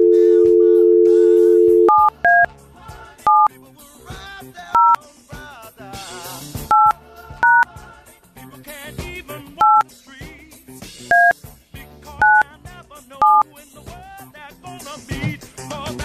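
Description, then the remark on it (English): A steady dial tone gives way to a quick series of touch-tone beeps as a phone number is punched in, each short two-pitch tone clear, with faint background noise between presses. “Okay, so call the first number because it got a ring first.”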